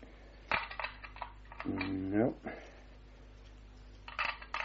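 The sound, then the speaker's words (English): Keys jingle and scrape against the lock of a door as several keys are tried one after another, with sharp metallic clicks and rattles, broken midway by a short strained vocal grunt before more clinking. “No, these are the only keys, Miss Hunter.”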